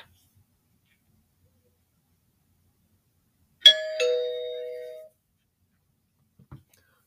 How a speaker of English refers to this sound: 20 minutes pass and the doorbell rings.